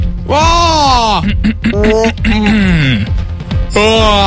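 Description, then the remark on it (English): A person makes several exaggerated, drawn-out fake yawns in a row to get free coffee from a machine that dispenses coffee when it detects a yawn, each a loud voiced groan that swoops up and then slides down in pitch, with brief breaks between them. “You have to, like, fake a yawn to get some free coffee.”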